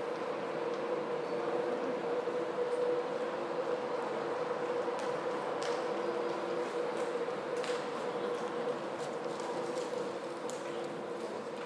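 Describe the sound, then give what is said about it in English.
Steady railway station ambience with trains at the station in York: a constant mechanical hum and rumble, like an idling engine, with occasional faint clanks and clicks. No one is speaking. “Even though just in the station here, it's nice to be back in York.”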